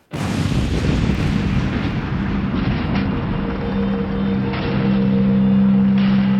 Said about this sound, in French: Et tout va très vite. La première explosion entraîne une réaction en chaîne. Les bouteilles de gaz, butane, des réchauds, outils indispensables des campeurs explosent, les unes après les autres.